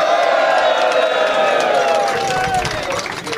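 A crowd applauds loudly and steadily, with cheering and whoops mixed into the dense clapping, easing off only slightly toward the end.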